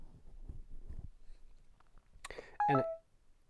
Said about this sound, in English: So this beep, I'm assuming that we just heard, is an indicator that it's time to do our accessibility thing.